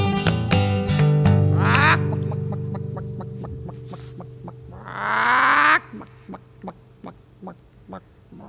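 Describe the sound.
A voice imitates a chicken: a run of short, evenly spaced clucks, a longer rising squawk in the middle, then more scattered clucks, fairly loud with nothing else around.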